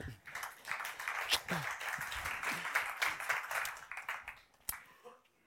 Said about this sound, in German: Und hey, gebt ihm doch schnell einen Applaus.